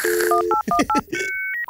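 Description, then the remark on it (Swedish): A quick burst of touch-tone dialing beeps from a dial-up modem connecting to the internet through the telephone network, paired electronic tones stepping rapidly one after another, followed by higher sustained modem-like tones sliding into a final short beep, loud with no talking. “Ja, alltså du gick ju genom telenätet. Just det. Det där ringde var ju upp där. Klämmer in det ljudet här.”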